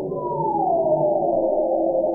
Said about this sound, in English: These are humpback whales just off the coast of Rottnest right now.